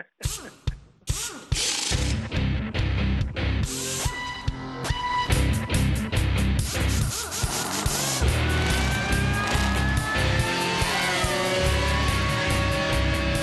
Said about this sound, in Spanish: Bueno, vamos a dejar que Otoncito, ponme la musiquita ahí de los carros de carrera.